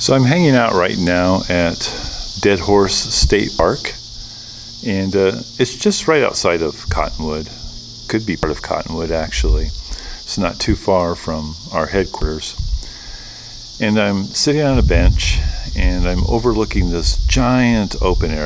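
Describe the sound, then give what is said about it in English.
A steady, high-pitched drone of cicadas buzzes continuously in a big, wide open space while a man talks in a relaxed tone, the insect hum never letting up. “And you can hear the cicadas in the background, maybe.”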